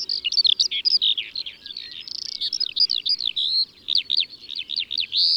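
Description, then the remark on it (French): A Eurasian skylark sings in flight, a rapid, unbroken stream of high, bubbling warbles and trills, clear, with a faint low rumble of wind or field noise beneath. “L'alouette des champs, qui chante en vol à toute allure.”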